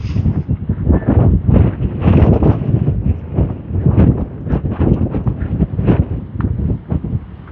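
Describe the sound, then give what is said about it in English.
Strong wind from the gust front of a passing weather front, coming from the west and funneled down a street by houses, buffets the microphone in heavy, rumbling gusts, a loud continuous roar with irregular thumping surges throughout and no voices. “Oh, that wind is. It's the gust front from whatever this front is that's moving through.”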